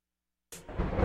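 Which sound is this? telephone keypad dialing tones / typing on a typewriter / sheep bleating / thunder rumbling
thunder rumbling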